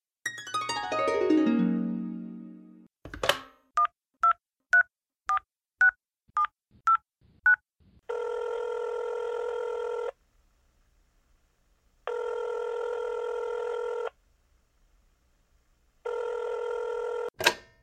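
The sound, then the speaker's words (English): A handset is picked up with a clatter, followed by a quick run of about eight dialing beeps, then three long, steady ringing tones separated by pauses, ending with a click. “lift the phone and ring somebody”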